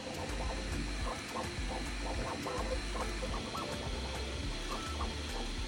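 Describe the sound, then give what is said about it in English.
An A1 3D printer hums steadily while printing, with soft stepping motor whirs and brief tonal chirps rising and falling in a busy rhythm; no one speaks. “Input shaping allows the printer to print quickly and very precise.”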